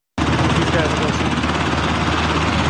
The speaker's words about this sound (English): Clip number one, 12 military helicopters participated last night in an evacuation training exercise near the U.S. Capitol.